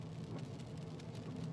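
Steady rain drums on the roof of a car driving at night, a dense patter of drops over a low, continuous engine rumble. The sound is even and unbroken, with no voices.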